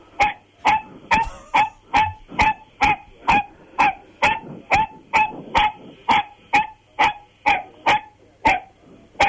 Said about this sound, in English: Amazing performance by Sophie. And how many total barks do we have for Sophie?